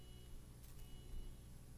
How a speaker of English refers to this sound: Somebody's alarm's going off.